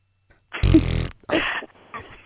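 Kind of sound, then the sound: sound effect, fart noise sound effect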